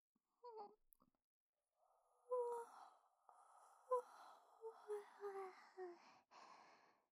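An older sister gives a big, drawn-out yawn with a voiced, moaning quality that rises and falls over several seconds, preceded by a brief short breath, in an otherwise quiet setting.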